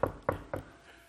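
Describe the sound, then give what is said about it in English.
Three sharp knocks on a door in quick, even succession, moderately loud, each with a short woody thud and brief ring before fading into quiet. “Here I am. I stand at the door and knock. Hello, anybody home?”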